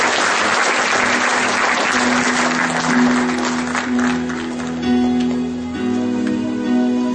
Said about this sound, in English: Come on, everybody give the Lord a clap off. Stand up.